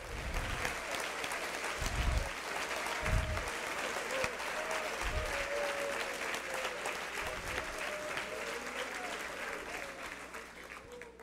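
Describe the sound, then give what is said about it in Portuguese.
A standing audience applauds God steadily for several seconds, a dense wash of many hands clapping, with a few low thumps and faint murmuring voices mixed in. “Não julgue mal esses que se levantaram e aplaudiram a Deus”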